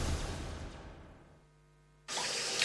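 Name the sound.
shower water running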